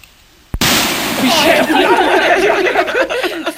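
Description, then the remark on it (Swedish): A single sharp, loud Cobra 6 firecracker blast cracks out suddenly, followed by a sustained wash of noisy crackle and excited voices and laughter afterward. “Hör här, vilken brakare.”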